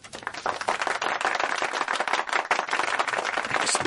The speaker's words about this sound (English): So you might have had human beings clapping for you at that other station, but we give you a machine-based round of applause there.